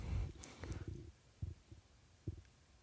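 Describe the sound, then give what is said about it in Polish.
Muffled, low heartbeat thumps of a person's pulse recorded live, a few soft pulses with a lub-dub pairing near the end, following a rumbling, noisy start. Faint, with no voices. “To ja zrobię tętno pulsu na żywo i będzie snap”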